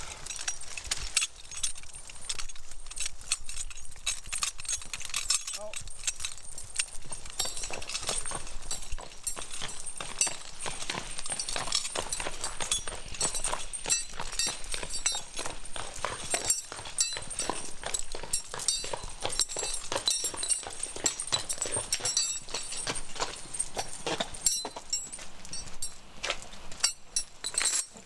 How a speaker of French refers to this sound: Là, c'est la pause casse-dalle pour le cheval. Oh bah dès qu'il y a à manger, des 2 ou 3 feuilles, de toute façon.